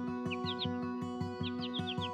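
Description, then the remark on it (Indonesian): A caged sooty-headed bulbul (kutilang), its cage placed near a house terrace, sings a few quick, bright chirping phrases in two short bursts, heard fairly clearly over a steady, rhythmic thumping background with no one speaking. “Karena setiap burung kutilang itu berkicau.”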